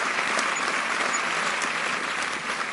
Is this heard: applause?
yes